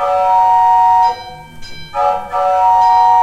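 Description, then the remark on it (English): A railroad crossing clangs loudly as a train approaches, a dense, ringing metallic tone that briefly drops away in the middle before swelling back in with no voices. “And then we have a train crossing bell. And then you hear the train coming.”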